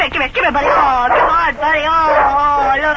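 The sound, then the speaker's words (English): A dog named Bunny, at the back door, gives a few quick, sharp barks, then breaks into a long, wavering whimper and whine, fairly loud, with no other sounds around it. “Now, where in the world could that dog have been during that storm?”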